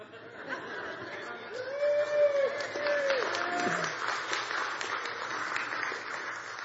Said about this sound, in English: But you're clapping for her or me?